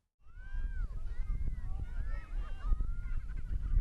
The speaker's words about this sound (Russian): В Израиле орнитологи и простые обыватели наслаждаются редким явлением. Каждый вечер синхронный полет демонстрирует тысячи скворцов. Давайте посмотрим.